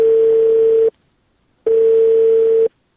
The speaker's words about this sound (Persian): بله سر، تلفون قطع شد.